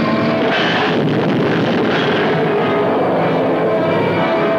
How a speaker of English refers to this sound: Suddenly, a plane dives to death.